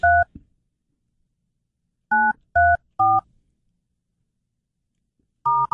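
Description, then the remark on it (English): Touch-tone telephone dialing to make a phone call: several short, clear beeps keyed in irregular bursts with pauses between them, fairly loud, with no talking. “Making a phone call”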